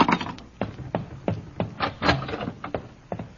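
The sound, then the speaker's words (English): A door opens with a series of irregular clunks and rattling knocks over a few seconds, moderately loud, with no voices. “The door is open and I know.”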